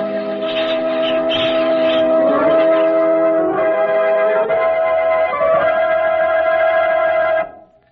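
signal or alarm, church bells ringing

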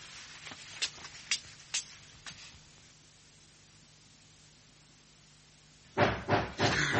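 household object, knocking on a door

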